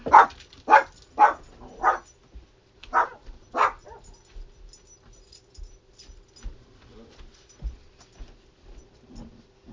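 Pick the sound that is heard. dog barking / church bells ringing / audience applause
dog barking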